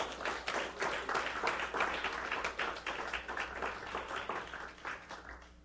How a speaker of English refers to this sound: You learned something. Give God a hand clap if you learned something.